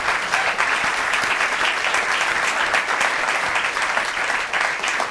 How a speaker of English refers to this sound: We also want to thank everyone in our live audience for participating in the program. Would you give yourselves a round of applause?